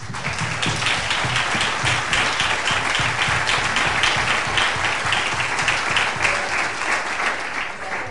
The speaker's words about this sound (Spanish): Y nada, un aplauso en nombre de todos.